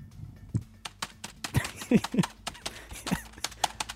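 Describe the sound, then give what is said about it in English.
Rapid, irregular keyboard typing: a steady stream of sharp clicks and taps, some heavier keystrokes standing out, with no voices over it. “Have a listen to how much typing I've been doing.”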